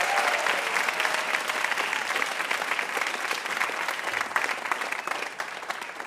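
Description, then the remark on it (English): Steady, loud audience applause for guest AJ Jacobs on the show Ask Me Another fills the whole stretch, a dense wash of many hands clapping without pause and with no one speaking over it. “one more round of applause for AJ Jacobs.”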